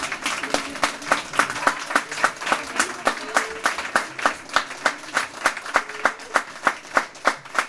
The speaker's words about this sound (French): Donc j'aimerais qu'on les applaudisse pour le spectacle qu'ils vous ont produit.